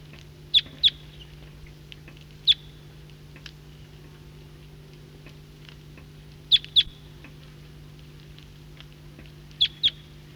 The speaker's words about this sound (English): Flock of the same call type is coming in from the east. Recording this flock is getting restless and calling.